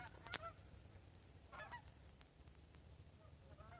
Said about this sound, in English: I don't know if you can hear the geese or not. When we first moved here, listening to the geese was one of those things that just tickled me all the time.